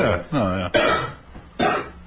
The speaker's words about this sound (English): Yeah. I'd be coughing too.